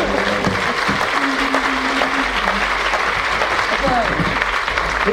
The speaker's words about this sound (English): Oh, fantastic! And a round of applause.